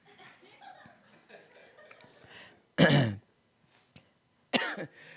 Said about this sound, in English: Can I just cough really hard one time? Technology and phlegm. I hardly ever do this at home. No, getting up, getting the word, I'm going to have a hissy fit coughing.